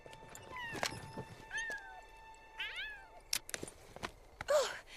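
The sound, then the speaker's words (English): A cat mews several times at a dress shop, a series of short high-pitched cries with sliding pitch, spaced unevenly over a few seconds, mixed with sharp clicks and soft background noise. No one speaks. “Hearing a mew, as Preminger peeks inside the shop window, Eove walks over to the scheming man's horse.”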